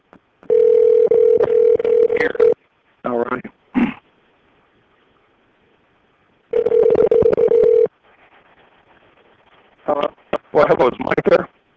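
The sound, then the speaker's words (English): A phone call to a broker prospect rings out in two long, buzzy tones separated by a quiet pause, with short bursts of sound in between. A voice picks up at the end, heard through the phone. “I got one more broker prospect I can call here.”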